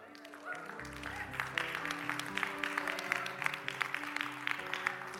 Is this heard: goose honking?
no